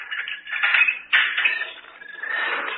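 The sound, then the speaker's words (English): A key rattles and scrapes in a lock, a sharp click snaps partway through, then the door is pushed open with a soft, steady scraping sound. No one speaks. “Oh, you have the key? Yeah. Open the door.”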